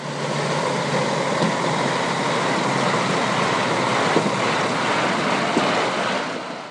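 Heavy trucks bringing in material and hauling away earth, and excavators digging and leveling, rumble at a fenced construction site for planned towers in Belgrade, Serbia: a steady, loud mechanical roar with a few faint clanks, and nobody speaking.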